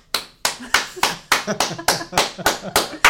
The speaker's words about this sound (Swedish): Det var inte jag som applåderade.